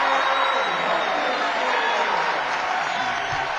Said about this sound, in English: The crowd is rowdy